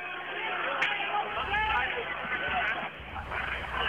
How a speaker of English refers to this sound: That's the crowd responding. Some people are getting up, some people are booing.